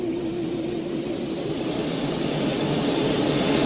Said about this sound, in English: The plane starts to take off.